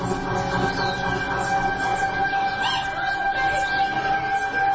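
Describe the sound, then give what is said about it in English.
Warthog noises played from a video: a steady, shrill, wavering squealing cry that rises and falls without pause, loud and continuous for several seconds, with no one talking over it. “It's not me, it's a warthog.”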